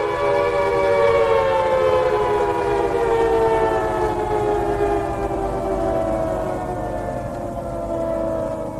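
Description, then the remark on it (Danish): Outdoor tornado and severe-weather warning sirens in Dallas, Texas, set off by hacking, wail steadily with a loud, harmonic drone whose pitch slowly glides downward, over a constant low rumble and no speech. “Engineers had to manually shut down the sirens that are normally used to warn of tornadoes and other severe weather.”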